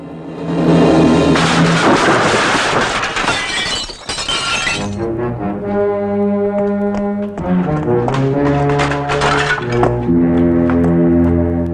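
Shop window glass on a dark street shatters as a man walks straight through it, in a loud, sustained crash with bright tinkling shards for several seconds, then gives way to music with steady, ringing tones. No one speaks.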